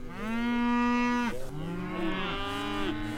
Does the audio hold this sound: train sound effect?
no